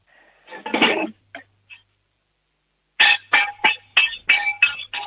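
Metallic clattering of a cooking pot, then a run of about seven sharp, ringing bangs as a six-year-old girl in Upper Austria strikes the pot with a spoon as loud as she can, in a quick, uneven rhythm.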